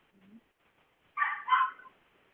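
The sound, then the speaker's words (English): A dog lets out two quick, sharp barks back to back, clear, after a faint brief whine, during a meeting vote. “Sorry, is the dog opposed?”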